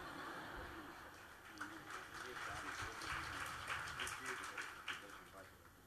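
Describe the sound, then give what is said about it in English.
Scattered hand claps ring out over a few seconds, sharp and irregular, mixed with a busy murmur of voices and room noise in the background. “somebody wanted to clap over there.”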